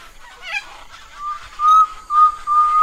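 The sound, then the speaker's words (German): A tinamou, a small grey ground-running bird, gives a clear, pure whistling call: a few long, steady notes held on one pitch with short breaks between them, rising out of a quiet outdoor background in the Pantanal, Brazil. “hinten sehe ich einen Tinnemu laufen, der mich groß anguckt. Das sind so kleine graue Laufvögel, die so schön pfeifen.”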